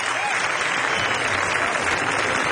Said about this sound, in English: But first, … was warmly welcomed by the Windy City crowd as they took to the main stage at the 24th Annual Chicago Jazz Festival.